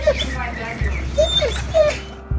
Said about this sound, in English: the cadaver dogs finally arrive.